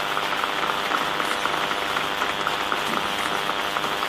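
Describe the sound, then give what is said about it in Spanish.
A crowd in Argentina claps steadily for a patriotic militia on the stage, a dense, even wash of many hands with no voices standing out, sustained at a moderate level for a few seconds. “Pido un fuerte aplauso por nuestra milicia patriótica, primera fuerza revolucionaria de la Argentina.”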